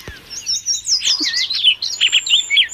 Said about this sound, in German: So klingt der, ein bisschen unspektakulär. Da klingt der Pirol bei uns besser. Und der heißt Baltimore Oriole oder auf Deutsch Baltimore Trupial und gehört zu der Gruppe der Sterlinge.